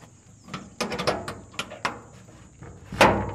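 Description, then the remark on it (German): A series of sharp metallic clicks and rattles as the padlock securing the storeroom door of the Ewasso primary school, a few kilometres from Las Haba, is worked open, followed by a louder scrape and clunk as the door swings open. No one speaks. “öffnet das Vorhängeschloss, das die Tür zum Lagerraum der Ewasso-Grundschule sichert.”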